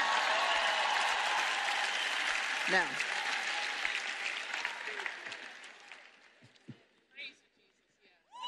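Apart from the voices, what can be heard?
audience applause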